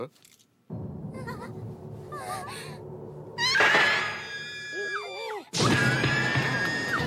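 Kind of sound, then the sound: human body sound, woman's piercing scream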